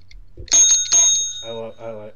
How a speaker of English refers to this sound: Ring the bell.